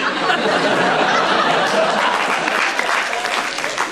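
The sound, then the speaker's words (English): An audience applauds steadily throughout, dense clapping with a few bits of laughter mixed in, sounding like a crowd reacting at a live show. “Don't clap, it's patronising.”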